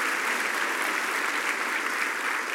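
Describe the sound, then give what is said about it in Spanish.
An audience applauds the Lord together, a dense, steady wash of many hands clapping at an even loudness for a few seconds, with no voices standing out. “Vamos a dar un aplauso al Señor por los siglos y los siglos.”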